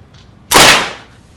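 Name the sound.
gunshot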